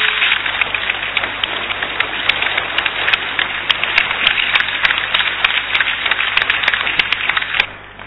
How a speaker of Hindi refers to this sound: इसे जब वो आएंगे थोड़ा जोर से तालियां जरूर बजाना, सर प्लीज कम सर, तालियां जरूर बजाना, बजाइए।